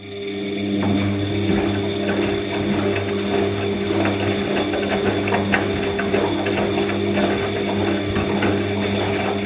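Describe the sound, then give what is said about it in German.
A washing machine running steadily, with a constant low motor hum, mechanical clicking and rattling, and sloshing water throughout. No one speaks. “Dieses Geräusch wurde dir präsentiert von Waschmaschine, so wasch, so Maschine.”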